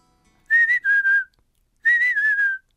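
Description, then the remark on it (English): Bird song of clear, pure whistled notes in two matching phrases with a short pause between; each phrase starts a little higher and slides down into a longer, lower note. No talking. “Spring begins for me when I hear that bird song.”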